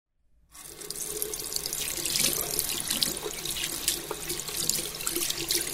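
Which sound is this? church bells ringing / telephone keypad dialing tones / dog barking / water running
water running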